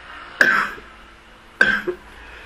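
Two sharp coughs about a second apart, the second trailing into a brief throat-clearing rasp, close to the microphone against a quiet background with no talking.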